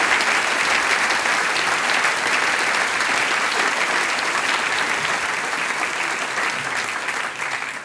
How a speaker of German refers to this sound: Und jetzt gibt's den großen Applaus. Dankeschön.